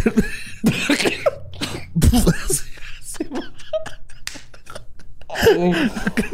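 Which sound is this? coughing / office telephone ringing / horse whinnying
coughing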